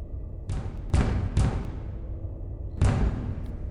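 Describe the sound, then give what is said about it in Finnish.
Four solid knocks on the cockpit door of a spacecraft, three close together and then a single one after a pause, each with a short, booming resonance and no voices. “Kävelen ohjaamon ovelle ja koputan ovea.”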